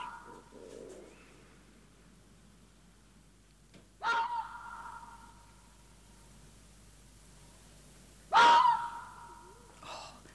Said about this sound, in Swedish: Och jag tänker att vi måste lyssna på en räv också.